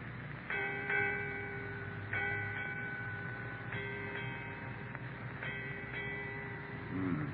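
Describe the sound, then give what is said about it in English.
A ship's bell strikes eight bells, four pairs of bright ringing strokes with lingering metallic tones, spaced evenly over a steady low rumble. “Eight bells, Captain.”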